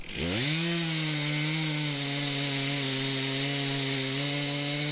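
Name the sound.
chainsaw cutting wood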